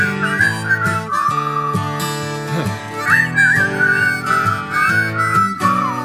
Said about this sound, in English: Whistle!